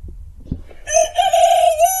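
A domestic rooster, hatched at its owner's home, lets out a single loud, drawn-out crow, its harmonic call holding steady for about a second after a few faint low thumps. No one speaks.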